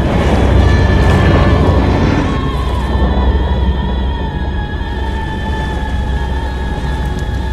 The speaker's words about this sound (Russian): Я не знаю, что случилось. Двигатель взорвался. Может быть, Сантос поторопился с ремонтом, не затянул как надо трубопровод.